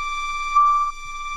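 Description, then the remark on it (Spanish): A steady electronic siren tone marks the end of the outdoor time slot for grandparents and the start of children's time outside until 7 pm. It holds a single high pitch, swelling briefly louder in the middle before settling back to a constant drone, with no voices. “Bueno, esta sirena va para las abuelas y los abuelos.”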